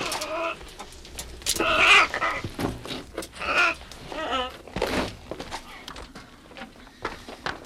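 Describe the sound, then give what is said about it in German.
Parrots squawk and screech in loud, irregular bursts, several harsh calls overlapping, with a brief pause between the busiest flurries and no talking. “Rühren Sie die Vögel nicht an. Überlass ihm die Papageien.”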